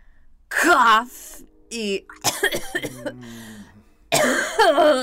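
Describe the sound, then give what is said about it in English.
A person sick with the flu coughs in several harsh, rough bursts spread across a few seconds, with throaty voiced sounds and brief pauses between them. “Cough.”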